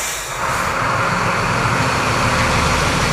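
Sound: delivery truck driving away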